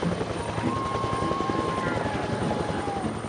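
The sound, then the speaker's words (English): A helicopter arrives and roars overhead, its rotor chop pulsing steadily and loudly throughout, with a high engine whine riding above the thumping blades. “Helicopter has arrived.”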